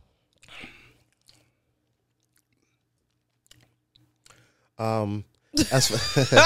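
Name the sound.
sipping tequila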